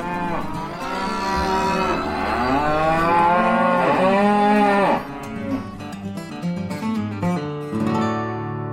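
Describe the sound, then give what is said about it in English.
A herd of cows on a farm moos loudly, first in a long drawn-out bellow lasting several seconds, then in a series of shorter overlapping calls from more than one animal, with no talking. “Not to mention the herd of cows.”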